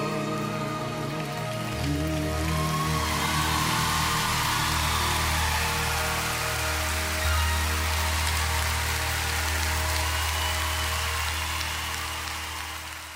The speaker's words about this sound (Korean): 네, 박수 소리의 환호성에 이 맛에 가수를 하는 게 아닌가 싶네요.